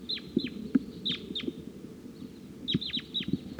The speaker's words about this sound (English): Crossbill's on the scene here. Wild bird up in the tree.